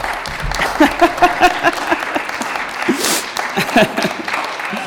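An audience at a church baptism service claps steadily for several seconds, welcoming two newly baptized members. A dense, even patter of many hands, with a few voices calling out over the applause.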